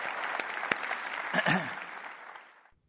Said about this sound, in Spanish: Si Dios te habló, dale un aplauso al Señor, que Él se lo merece.